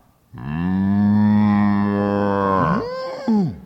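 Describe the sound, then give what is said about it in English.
A cow being led by a man along a hot, dusty road to market gives one long, loud moo, a steady drawn-out low call that bends and wavers in pitch near the end before cutting off. No one speaks. “Well, the farmer noticed a man who was leading a cow.”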